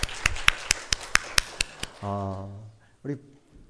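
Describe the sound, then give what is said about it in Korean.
An audience gathered indoors because of rain claps for God in steady unison, about nine sharp, evenly spaced claps over two seconds, followed by a short spoken phrase and a brief vocal sound. “우리 하나님께 영광의 박수를 드리겠습니다.”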